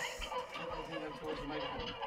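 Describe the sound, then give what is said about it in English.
Chicken clucking, a busy run of short, choppy clucks and squawks that keeps going without pause for about two seconds, close and fairly loud. “That's ducks. It's chickens. Chickens.”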